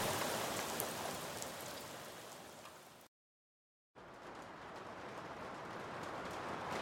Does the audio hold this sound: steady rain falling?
yes